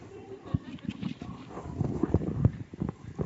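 Camel hooves clip-clop in an uneven walking rhythm, a steady run of moderately loud thuds over a low rumbling background that swells slightly toward the end.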